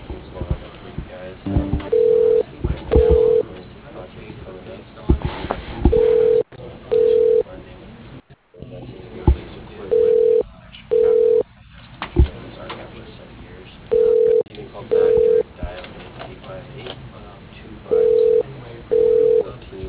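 A telephone ringing tone repeats in paired short beeps every few seconds. The steady, mid-pitched tones sound thin and phone-line narrow, over a low muffled background murmur.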